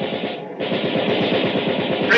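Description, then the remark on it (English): Sustained machine gun fire from a gun aboard a ship, aimed at an approaching enemy about 1,500 to 2,000 yards off: a fast steady rattle of rapid bursts repeating without pause, loud and harsh throughout, with a brief dip before the firing resumes. “Get on that gun, Mr. Hayes. When you see him, fire.”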